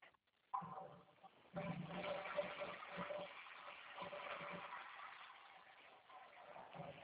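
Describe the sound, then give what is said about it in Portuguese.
Water for cleaning gushes steadily from a tap, a continuous rushing hiss that starts after a brief knock and keeps flowing at an even loudness for several seconds. “Água, tá? Pra limpar.”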